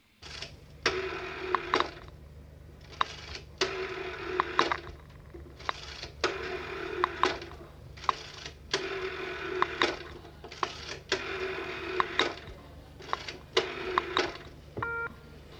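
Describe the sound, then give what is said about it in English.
An old-time landline (cable) rotary telephone, a common sound of the 1960s, being dialed: a series of whirring, ratcheting bursts, each lasting about a second, separated by short pauses, over a faint steady hum, with no one talking. “Yeah, that was a landline telephone. That means an old-time cable telephone with the dialing sound and the alarm signal.”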